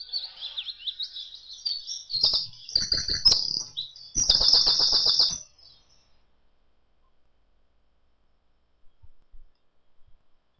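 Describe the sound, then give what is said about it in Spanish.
Small birds chirp and whistle in a busy, high-pitched chorus, with a burst of fluttering wing flaps in the middle, then the sound fades to near silence with a few faint clicks at the end. “Este es el tan escuchado silbido de los pajaritos.”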